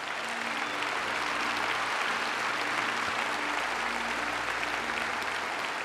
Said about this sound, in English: Let's give Scott a round of applause.